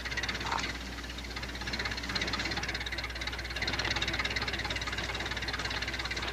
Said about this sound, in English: Keep her going, Ma. Keep her running, Ma. Don't turn off a motor. Battery's a little weak. We're saving her.